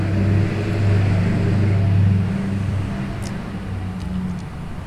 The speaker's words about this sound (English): I will say I could do without pickup trucks driving by, but pickup trucks serve a purpose.